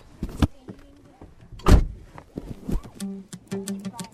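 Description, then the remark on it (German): A car door thuds shut with a loud clunk, followed by the whirring hum of electric windows moving in short bursts, with some faint clicks and rustling, as a group sets off on a roughly 10-minute car drive from a school in Lohfelden to an Icelandic horse farm. “Wir wollen euch den Island-Pferdehof Sörewald vorstellen und deshalb fahren wir jetzt dahin. Von der Regenbogenschule Lohfelden brauchen wir ca. 10 Minuten mit dem Auto.”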